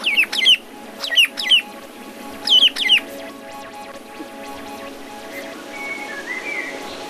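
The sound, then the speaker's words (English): Several birds of a family flock give loud, sharp rising calls in quick paired bursts, calling back and forth to each other over the first three seconds, then fade to a quiet outdoor background with faint chirps. “constantly calling to each other while they're foraging on the ground and also while they're in the air, usually as a family clan.”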